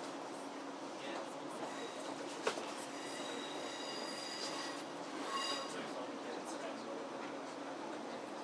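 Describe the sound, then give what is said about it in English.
A train rolls in on the adjacent track, slowly slowing down, heard from aboard another train: a steady rumble with thin, high-pitched wheel squeals drawn out throughout and a single sharp clack partway through, fairly quiet and continuous. “Sounds like there's a train coming in on the adjacent track to us.”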